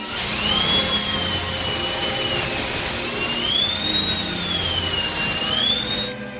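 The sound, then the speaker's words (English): A shrill dentist drill whine in Isaac Yankem's theme music slides slowly up and down in pitch, riding over a steady, loud rushing roar for several seconds, with no voices. “And I know that it was the gimmick, but there's nothing worse than that Dentist Drill hitting.”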